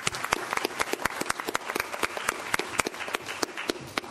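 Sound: round of applause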